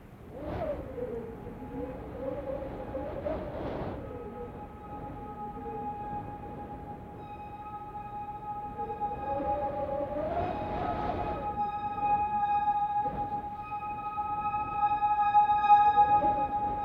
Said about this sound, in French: Le vent. Le vent qui entre par les fenêtres mal isolées. Le vent, tout le temps, le vent.